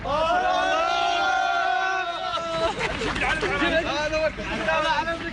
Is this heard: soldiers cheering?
yes